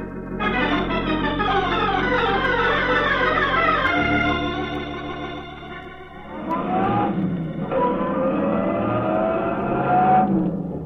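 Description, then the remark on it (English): A car engine revs hard and accelerates out of an alley, its pitch climbing through rising gear sweeps, then dips and roars up again in a second loud acceleration, unbroken, with no voices. “I gunned out of the alley and turned left on Vine.”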